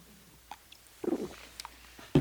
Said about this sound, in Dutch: Want, ik zal eens wat anders zeggen, ik neem even de tijd nou even, een slokje nemen.